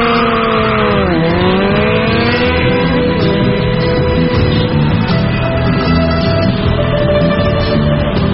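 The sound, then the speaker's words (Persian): A motorcycle engine revs up, its pitch dipping and then climbing as it pulls away into a steady, loud roar that holds for several seconds, with no voices, as the rider sets off carrying a passenger on the back. “آره خب پس بپر ترک موتور تو من جلی ببرم تا اوستان چاکیه شده.”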